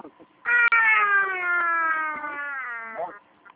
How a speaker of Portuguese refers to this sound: Era o bode.